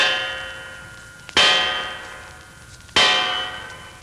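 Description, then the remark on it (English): A guard uses the bronze knocker on a door with bronze fixtures, striking twice about a second and a half apart, each heavy metallic clang ringing out with a bright, slowly fading tone. No voices. “Look at those bronze fixtures on the door. Everything bronze, even to a knocker. Hey, watch. One of the guards is going to use it.”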